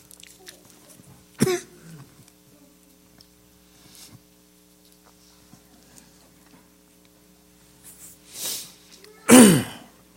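A man preaching a sermon coughs and clears his throat in a few sharp bursts: one short cough early, then after a quiet stretch two rougher, louder coughs close together near the end, over a faint steady hum.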